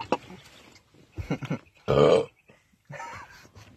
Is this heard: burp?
yes